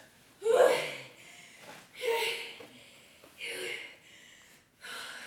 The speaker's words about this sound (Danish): Jeg løb og løb og løb, indtil jeg nåede til en kæmpe stor skov, hvor jeg satte mig under et træ for at få pusten.